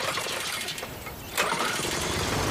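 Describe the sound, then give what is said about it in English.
A small generator engine is started by tugging a pull-cord handle, sputtering briefly before catching and roaring into a steady, loud running drone. “Later, he tugs a handle and turns on a generator.”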